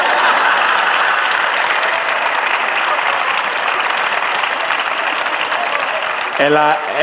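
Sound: applause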